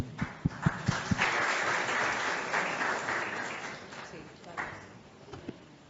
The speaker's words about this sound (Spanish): Aplauso.